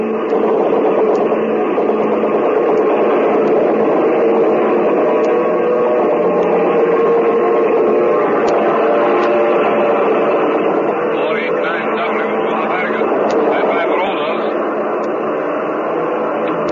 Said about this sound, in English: Oh, boy, I can now. The Spitfire just got here.